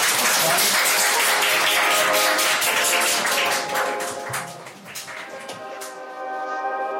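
An audience applauds in a loud, dense burst of clapping that thins out after a few seconds, while a steady sustained tone, likely music, rises underneath. No one speaks.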